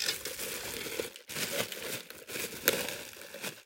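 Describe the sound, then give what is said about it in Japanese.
Loud crinkling of a plastic bag of salt being handled, in three long rustling bursts separated by brief pauses, with a sharp crackle near the end and no talking. “いや、ガサガサうるさいね。ごめんなさい。”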